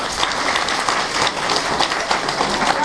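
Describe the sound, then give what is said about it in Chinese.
A crowd applauds themselves steadily, many hands clapping in a dense, continuous patter with no voices breaking through, holding an even loudness from start to finish. “好的，为自己鼓掌好吗？”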